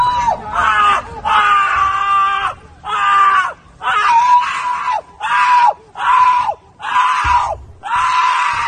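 A person screeches over and over, loud, in about eight long, shrill bursts separated by brief gasping pauses, with a faint low background rumble underneath; heard in a played video clip from Germany.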